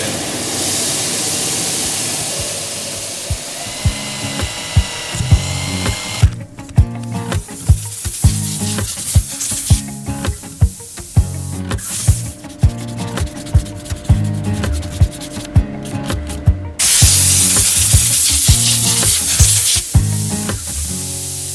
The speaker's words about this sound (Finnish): Sen korvakoruaihion, eli siinä on liimattu yhteen tuommoisia jätepaloja, saatu tuo kuvion muotoiseen tehtyä, sen jälkeen se ajan raakasti muotoon sahalla. Ja sen jälkeen se hioo.